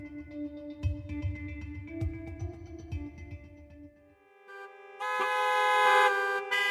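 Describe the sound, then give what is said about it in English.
Car horns honk in a traffic jam in New York City, several sustained tones overlapping above a low, pulsing engine rumble, before a louder, brighter horn blast takes over for the last couple of seconds. “And finally, New York City is now the world's third most congested metropolitan area, and the traffic jams are dragging on the economy.”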